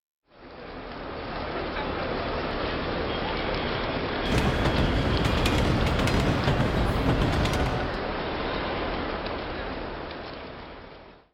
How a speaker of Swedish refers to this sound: När kommer tåget till Stockholm? Det kommer 8:00. Det brukar komma i tid. Nu ska vi se. Den är nästan 8 och tåget är inte här än. Oroa dig inte. Snart är det här. Där kommer det redan.